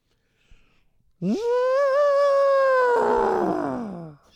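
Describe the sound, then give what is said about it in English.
A person imitates an elephant call with one loud, sustained vocal blare that swoops up, holds for about three seconds, then sags into a raspy, falling finish, with no other sounds around it. “Was that supposed that was to an be? Elephant.”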